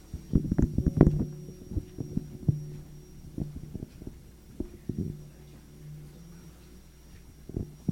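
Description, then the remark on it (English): A person hums low, steady notes in a few drawn-out phrases, fairly quiet, with soft thumping knocks scattered around the humming. “You hum? I have to stop humming.”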